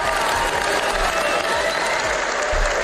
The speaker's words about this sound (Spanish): Porque tuvieron que pasar años, sentencias, desmentidos y el aprendizaje lento de la sociedad para convertir en unánime el aplauso que ayer le dedicaron en el Festival de San Sebastián a la primera mujer que consiguió una condena por acoso